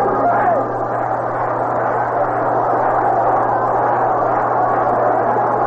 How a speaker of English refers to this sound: Big crowd settling back into their seats now. Last of the seventh inning. Exciting, well-played ball game, a 1-1, and the biggest time of the year gathered at Shea Stadium.